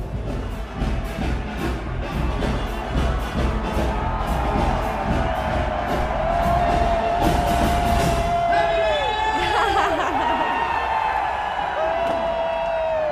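A large crowd screams and cheers in a loud, continuous roar at a New Year celebration as 2012 begins, with whoops and shrill tones that glide up and down over the din.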